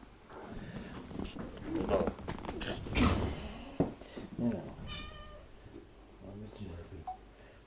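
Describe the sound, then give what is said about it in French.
A cat meows several times in a loud, drawn-out, wavering cry, with faint background rustling and a brief voice murmur underneath. “On va mettre ce chat dehors.”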